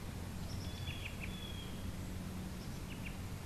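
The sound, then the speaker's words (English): Faint, high-pitched bird chirps and short whistles come in scattered bursts over a steady outdoor hum, birds singing in a Japanese garden, with no one talking. “So now listen to the birds as you sort of sing.”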